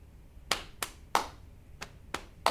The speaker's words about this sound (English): One more time. So we'll do a clap again.